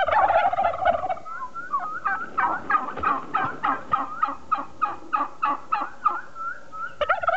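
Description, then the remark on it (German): A turkey gobbles in a rapid, rattling burst, followed by a long series of evenly spaced, throaty clucks repeating about twice per second, fairly loud, with no talking. “Dieses Geräusch gibt es dann in Zukunft nur noch in den USA und im Zoo.”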